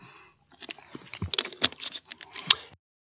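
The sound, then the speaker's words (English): Someone takes a quick drink of water during a pause halfway through reciting a long chemical name: a string of small clicks, smacks and rustles, with a few sharper taps and a soft swallow. No talking. “I'm going to grab a little bit of water here.”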